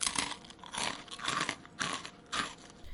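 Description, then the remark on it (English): Noisy chewing of chicken with the mouth open, crunchy, smacking bites repeating about twice a second for three seconds and no one speaking. “Ah, will you please chew with your mouth shut?”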